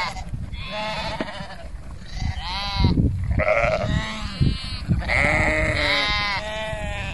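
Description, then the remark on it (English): Several sheep bleat repeatedly outdoors on the Craigantlet Hills, overlapping wavering cries, some loud and drawn out, over a low rumble of wind. “As I'm standing up on the Craigantlet Hills and looking at the sheep”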